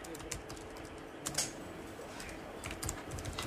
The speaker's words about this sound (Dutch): Het helpt natuurlijk wel als je een beetje snel kunt typen.